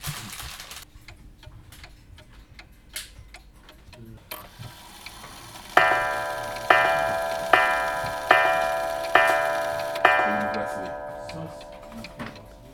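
A cuckoo clock ticks steadily in quick, dry clicks, then six evenly spaced, ringing chime tones sound out, each bright strike fading before the next.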